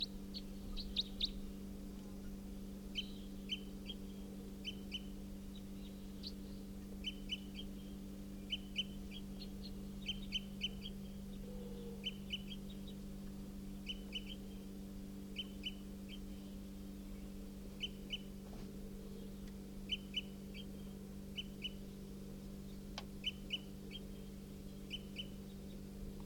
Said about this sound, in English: Yep, here's that wild bird. It's giving flight calls, type 4.